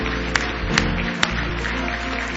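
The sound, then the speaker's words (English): An audience claps together as a hand clap of praise to the Lord, a dense, steady wash of many hands with a few sharper accents poking through, over a low sustained hum. “Give the Lord one more big hand clap of praise.”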